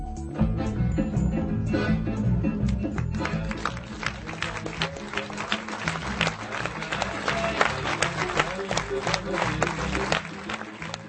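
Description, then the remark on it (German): Sustained applause from an audience for the new documentary film by Markéta Nešlehová about Czech Roma: dense overlapping claps forming a steady, loud wash of sound with some crowd murmur, continuing for about eleven seconds. “Beifall für den neuen Dokumentarfilm von Markéta Nešlehová.”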